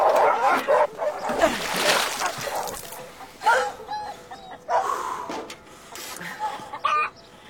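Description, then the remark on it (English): A dog barks in sharp, repeated bursts in a city, amid a noisy commotion of splashing and fowl-like clucking, with loud pauses between the barking volleys. “Way too many mad dogs in this city.”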